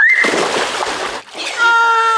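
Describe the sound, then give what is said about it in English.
A body plunges into a cold plunge with a loud splash and a burst of churning spray, followed by a sharp, high-pitched yelp. “Okay, so you took cold plunge.”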